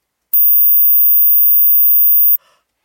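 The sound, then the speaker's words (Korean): A single piercing, very high-pitched age hearing test tone holds steady and loud for about two seconds, then cuts off abruptly, followed by a brief faint rustle. “삐 한 소리 들렸고.”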